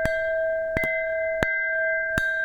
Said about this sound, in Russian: Военный музей Латвии недавно получил ценную реликвию – медный колокол с легендарного тральщика Вирсайтис.